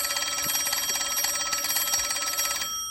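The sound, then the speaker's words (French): A telephone bell rings with a fast, continuous metallic trill, loud, announcing a call from Elton John, cutting off abruptly just before the end with no one speaking. “Elton John au téléphone.”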